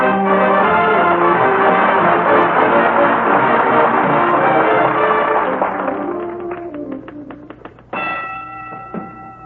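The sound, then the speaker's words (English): A dense, ringing tonal passage fades into a quick run of clattering keystrokes as Fibber McGee types a letter in the living room at 79 Wistful Vista on a typewriter that once belonged to a sports writer, then its loud bell dings sharply and rings on to the end. “Awful loud bell on that typewriter, dearie.”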